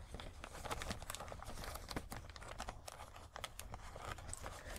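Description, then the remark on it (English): A plastic bag holding a new bra and panties crinkles and rustles as it is opened, a dense run of crackling bursts lasting several seconds, with no one speaking. “Where's that plastic bag she gave me?”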